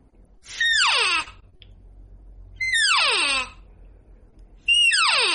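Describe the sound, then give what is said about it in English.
Three nasal, high-pitched elk cow mews blown on a cow call, imitating how a typical hunter in the woods calls, each sliding sharply downward, spaced evenly about two seconds apart and sounding nearly identical, over a faint low rumble with no talking. “Is they'll grab a cow call. They won't be overly proficient with it, and it'll be.”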